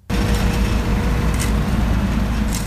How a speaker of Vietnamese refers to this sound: Tiếng máy ủi, máy lu cùng tiếng sẻng, tiếng cào khiến công trình thi công tuyến đường liên xã Phúc Triều Phúc Xuân trở nên nhộn nhịp hơn bao giờ hết.